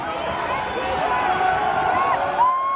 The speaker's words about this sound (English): Yeah. Antifa, yeah. Antifa. You can hear them yelling, Antifa, Antifa.